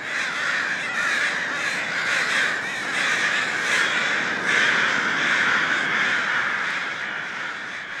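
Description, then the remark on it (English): A dense flock of crows caws harshly and continuously while pecking, a nod to Alfred Hitchcock with Tippi Hedren being pecked; many overlapping calls form a loud, chaotic racket with no pauses and no voices. “There you see, and hear, Tippi Hedren being mercilessly pecked by a murder of crows.”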